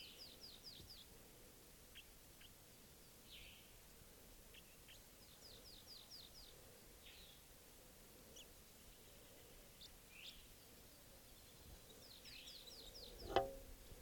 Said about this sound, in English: Wild bird here.